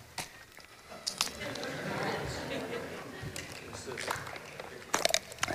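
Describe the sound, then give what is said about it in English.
A person drinking water, with wet mouth clicks, sips and swallows over several seconds and a few sharper smacking sounds near the end. “That's some good water.”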